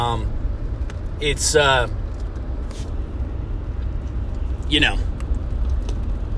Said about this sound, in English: So, riding in the truck right now